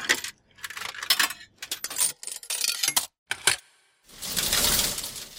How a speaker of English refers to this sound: It's called a change dispenser. The conductor used it to count the coins he received.